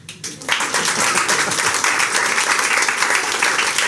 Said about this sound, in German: Applaus.